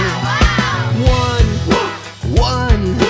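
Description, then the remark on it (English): A few short, yelping dog barks pop up in quick bursts over a steady, thumping disco beat with bass and drums running underneath throughout. “One dog in the room.”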